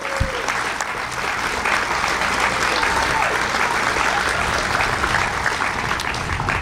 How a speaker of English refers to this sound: Let's give a big round of applause to the gecko.